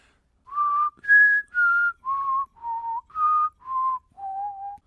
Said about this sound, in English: I can give you this tune, which our listeners are very familiar with. Yes. I'll try to whistle.